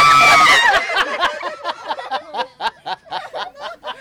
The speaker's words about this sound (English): Those were eels. Well, technically, those were humans who were doing the screaming. Eels are silent. But they can be pretty strange when a handful of a couple of hundred of them are placed in your hands and start streaming through your fingertips.